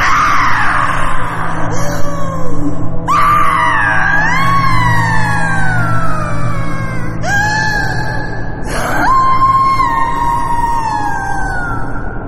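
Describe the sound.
A voice imitates the eerie, ghostly wail of a woman in a red skirt whose face is twisted into an endless scream: long, loud, quavering screams that slide up and down in pitch, breaking off and restarting several times over a steady low rumble.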